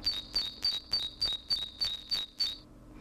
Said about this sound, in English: I'm going to play first the urban song of the Great Tit, or the Paris Major, and this happens to be a bird singing in Brussels. The ambient noise has been removed, so you need to pay attention to the pitch and also the pace of this bird song.